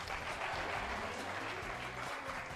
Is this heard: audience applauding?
yes